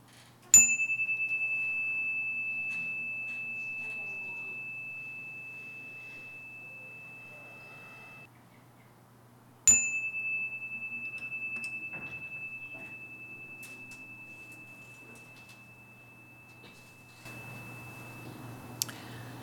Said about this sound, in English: Now we'll have a moment of silent meditation to center ourselves. It'll start and end with the sound of a chime.